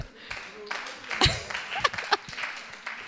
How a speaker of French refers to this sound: 30 ans, entre 30 et 40. Qui? Voilà, il y en a aussi quelques-uns. Voilà. Donc, oui, on s'applaudit.